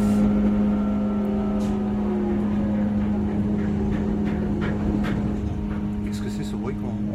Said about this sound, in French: Alors ça c'est le bruit, ce qu'on appelle le chariot qui ramène la catapulte de l'avant du bateau vers la position près de l'avion qui va être catapulté. Le dispositif se trouve au-dessus de nous